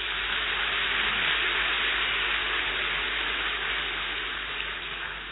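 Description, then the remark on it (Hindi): A crowd claps loudly and steadily for about five seconds, a dense wash of applause with no single claps standing out, easing slightly near the end. No one speaks. “जोर से ताली बजाओ।”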